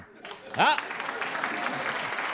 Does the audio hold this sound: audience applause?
yes